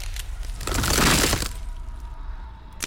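A concrete floor quaking and cracking: a loud, crunching burst of concrete breaking apart swells for just under a second, then fades into a low rumbling hiss with scattered small clicks of settling debris.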